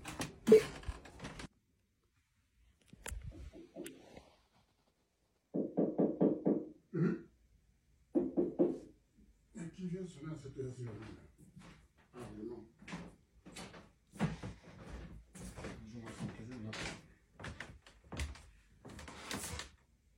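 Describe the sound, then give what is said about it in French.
Sharp knocks on a door come in scattered bursts, fairly loud, with muffled vocal sounds and brief pauses between them. “Mais toi, tu es couché là et puis en sonnant dans la porte, tu n'es même pas capable de donner pour aller ouvrir.”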